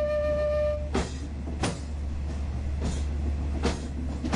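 A suburban train in Bangkok, Thailand, rumbles steadily at reduced speed along bumpy track with its windows open, a deep constant drone broken by sharp irregular clanks and jolts; a faint tonal whine fades out early on.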